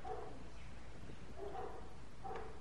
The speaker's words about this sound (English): The doggies know that I'm telling the story. They always come out during story time and start barking their heads off.